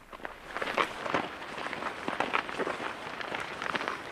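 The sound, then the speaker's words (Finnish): Several women's footsteps crunch along an outdoor path as they walk together, a dense, irregular patter of overlapping steps at a steady moderate level, with no talking. “Tänään mä siis askellan sydäntietoisten naisten kanssa ja yritän saada tuplahyödyn, liikettä ja ajattelun ruokaa.”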